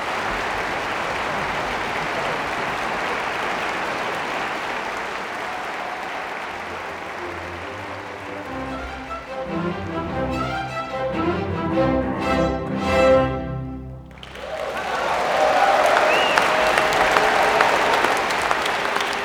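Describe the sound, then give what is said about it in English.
A large concert hall audience applauds and cheers the soloist and the ensemble, broad and dense, while a sustained final musical chord rings out and fades through the middle, then the clapping swells louder and fuller at the end. “The final notes shimmer in the hall as the crowd cheers the soloist and the ensemble, thousands of individuals who, for an evening, are united by the experience.”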